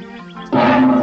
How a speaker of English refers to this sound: This is a tiger. That's a tiger. Yes, it is. That's a tiger.